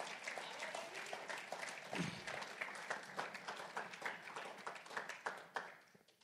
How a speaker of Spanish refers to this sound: Si le va a aplaudir, déselo fuerte, hermanos.